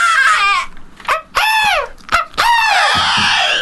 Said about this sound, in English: Let's all whistle down the microphone. That sounds nice. Let's see who can make the most annoying noise for the listener.